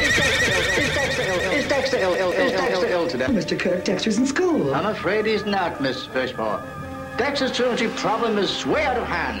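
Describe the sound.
Repeated loud horse whinnies rise and fall over a busy piece of music, overlapping one another, while spoken voices are mixed into the track.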